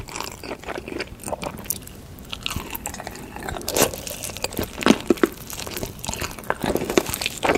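Wet, close-miked mukbang eating sounds of two people eating a huge pile of instant noodles: irregular crunchy bites, slurps and chewing of noodles, with crinkly clicks and smacks repeating throughout and no talking.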